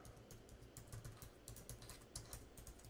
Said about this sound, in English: I will type my email address right now.